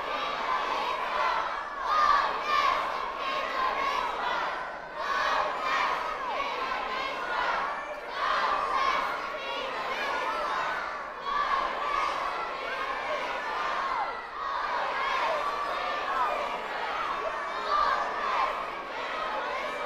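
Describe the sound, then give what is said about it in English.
A large audience chants "Come on, donkey!" and shouts together in a steady, rhythmic swell, many voices rising and falling in loud waves for the full stretch without a break. “Let's start the chanting.”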